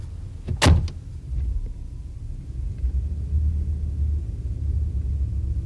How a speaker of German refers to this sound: Ihr Wagen ist vorgefahren.